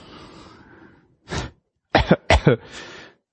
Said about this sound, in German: Ich muss mal einmal gerade husten, sonst wird das hier unangenehm.